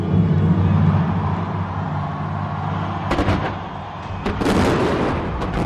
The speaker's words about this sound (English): Organizers lit up the city's coastline with a flying falcon made of fireworks. They also created bursts of light to look like a massive United Arab Emirates flag. This 6-minute extravaganza included 500,000 fireworks fired from 400 locations